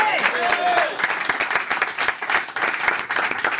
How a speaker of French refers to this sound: Applaudissements pour Benoît Solès.